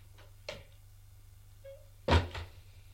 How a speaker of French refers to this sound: Arrivé à la maison, le domestique le mène au bureau du secrétaire de madame. C'est à l'étage. Frappe à une porte et le fait entrer.